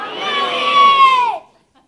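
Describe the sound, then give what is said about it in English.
An audience shouts one word together, "mountains", as its answer to whether mountains or beach is greater, in a loud, sustained unison yell that lasts just over a second, then cuts off abruptly into silence. “You're going to yell the one that you think is bet greater, and I'm just going to judge off the sound.”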